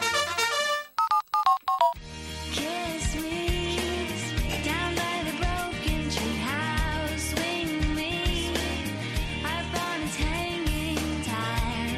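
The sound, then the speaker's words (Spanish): A short musical jingle in an advert for car insurance opens with a quick run of bright, chime-like notes, then breaks into full, upbeat music with a steady beat, loud, with no one talking. “Otros segunditos de música.”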